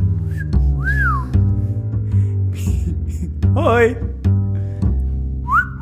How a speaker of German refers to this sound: Wieso pfeifst du?